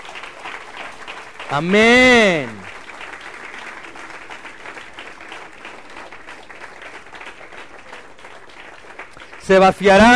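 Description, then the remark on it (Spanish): An audience applauds steadily for several seconds, a dense crowd clatter; a loud voice rings out briefly near the start and again at the end. “Pero denle un aplauso, que es todo el pueblo.”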